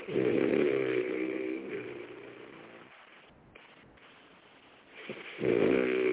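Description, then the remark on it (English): Loud, rough snoring of a sleeping man heard through a narrow, phone-quality line: a long rattling inhale, a quieter pause with faint breathing, then another heavy snore building at the end. “Snoring his ass.”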